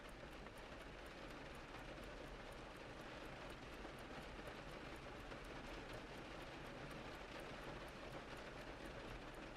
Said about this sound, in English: The rain outside seems to be coming down even harder, but the atmosphere inside the store remains peaceful and unchanging.